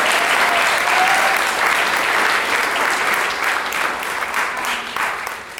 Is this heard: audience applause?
yes